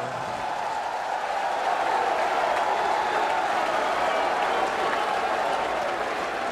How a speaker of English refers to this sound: And before I was so rudely interrupted by your applause, I was about to announce my colleague, my comrade, and my co-conspirator